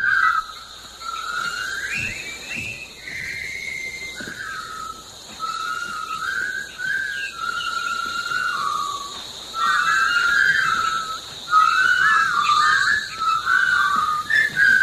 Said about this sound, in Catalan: Home, identifiquem automàticament aquest xiulet i ara el tindrem tot el dia al cap, perquè aquesta és una altra.